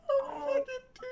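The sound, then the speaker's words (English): A blind, fat, 15-year-old pug with no teeth whimpers in a thin, high, wavering whine that rises, holds and trails off over about a second, followed by a brief softer whimper. “That is a blind, fat, 15-year-old pug that has his that pug don't have teeth.”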